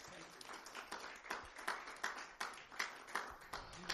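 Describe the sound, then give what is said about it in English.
A church audience gives God a clap offering in a dense, steady wash of applause, with sharper rhythmic claps pulsing through roughly every half second over a continuous bed of hand noise. “Give God one more good clap offering this morning.”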